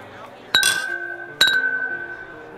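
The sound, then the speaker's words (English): Two bright glass clinks about a second apart in a toast, each ringing on with a sustained, chime-like tone that slowly fades, clear over a faint background. “Sound like a wind chime.”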